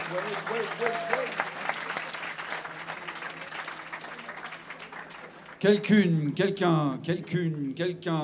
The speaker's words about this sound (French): Ah, merci. Merci beaucoup. On les applaudit encore, s'il vous plaît.